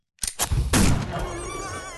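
A rifle gunshot fired by a young man at a wild boar during a hunt: a sharp crack followed moments later by a louder, heavier bang that rings out and fades slowly over the following second, with no voices present.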